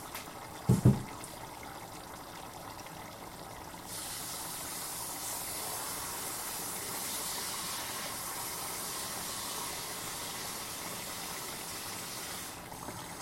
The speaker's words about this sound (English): Now that I've done that, I'm just going to fill this with water.